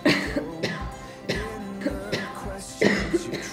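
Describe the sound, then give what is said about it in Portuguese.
A person coughs several times in short, sharp bursts spread across a few seconds, fairly loud, with brief pauses between the coughs and no talking. “Tosse aí”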